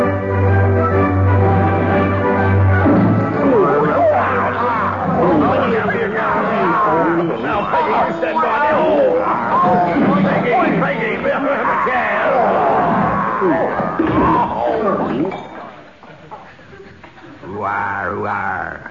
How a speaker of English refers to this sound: It sounded like a young Barry Cryer was in that crowd scene.